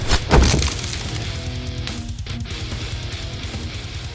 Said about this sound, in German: Und eine, die letzte Tür, schlägt er in kleine Einzelteile mit seinem Schädel.